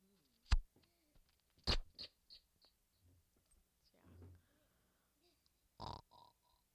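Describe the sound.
A person imitates a tired pig with a few low, breathy grunts and snorts between sharp clicks and puffs of breath. The sounds come in short, scattered bursts, fairly quiet.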